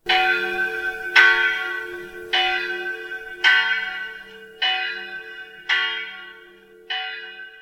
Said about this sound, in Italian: Fu arrestato nelle sue effusioni dalle campane che mandavano all'aria i più lieti squilli che avesse mai uditi.